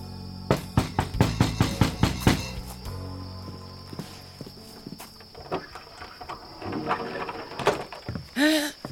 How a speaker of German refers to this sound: Dort klopfen nämlich Isabel und Sarah an die Hütte von Frau Meisenpretzel.